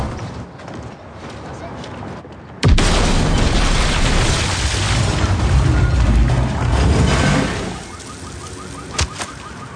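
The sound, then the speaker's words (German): After a few quiet seconds, a bomb hidden in a parcel explodes with a sudden loud bang, followed by about five seconds of heavy roaring rumble that drops to a low hum, with a couple of small pops. “Er hat das verhängnisvolle Paket angenommen, in dem eine Bombe war.”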